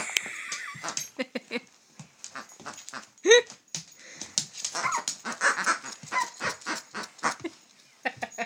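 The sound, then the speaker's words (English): A squeaky pheasant dog toy squeaked over and over by Johnny, then two toys at once, in quick, irregular bursts of high, wheezy squeals, with one louder rising squeak partway through and no talking. “That's Johnny squeaking pheasant. Oh, and that's them both.”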